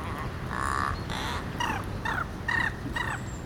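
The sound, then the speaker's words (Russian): A crow runs through a jumble of mimicked sounds: a sustained squawk followed by a quick series of warbling, gobble-like calls, fairly loud, with no talking. “Потом звуки в маленькой вороньей голове совсем смешались.”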